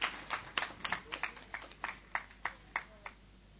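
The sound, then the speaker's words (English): An audience claps for a presenter in a brief, sparse burst: sharp, crisp claps that start quickly and overlapping, then thin out and slow to a few separate claps before stopping. No one speaks. “Can we clap for her?”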